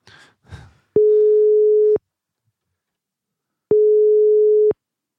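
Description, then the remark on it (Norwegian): A phone line's outgoing ringing tone: two steady, clear one-second beeps separated by a long pause, following a brief bit of muffled noise at the start. “Jeg skal i hvert fall ta en telefon nå. Jeg tror vi bare ringer, så tar vi det derfra.”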